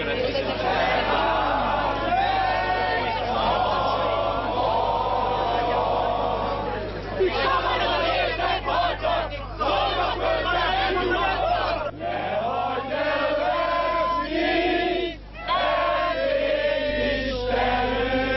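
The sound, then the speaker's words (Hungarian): A large protest crowd occupying a bridge sings and chants together, a steady, loud mass of voices with sustained melodic lines rising and falling, occasional shouts cutting through the continuous roar. “Folyamatosan énekeltek és szavaltak.”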